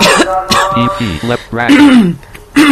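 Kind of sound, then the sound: human body sound, coughing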